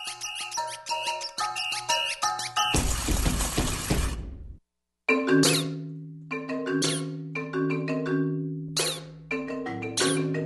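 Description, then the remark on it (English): A squeaky toy scored with other instruments in a musical piece: squeaks mingle with instrumental notes, then a noisy crashing burst, a brief silence, and a run of sharp high squeaks and plucked tones over sustained low notes. “But you can get all these different sounds just from a squeaky toy, depending in particular on how you score for it with other instruments.”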